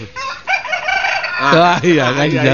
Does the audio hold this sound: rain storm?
no